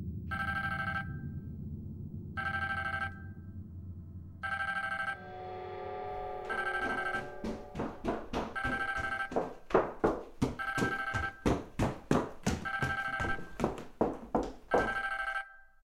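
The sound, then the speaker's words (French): A telephone rings with no one speaking: a few evenly spaced electronic tone bursts, then a rapid, buzzing trill of bright rings that repeats steadily and grows louder until the end. “Je cherchais mon téléphone. Je savais plus où je l'avais laissé.”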